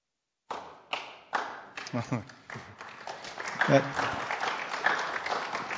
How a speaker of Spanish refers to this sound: That was my son over there clapping. Mi hijo empezó el aplauso para que todos me dieran la porra.